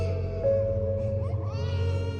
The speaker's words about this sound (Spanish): como si la casa hubiera aprendido a llorar por sí sola. No hay noche que no se escuchen.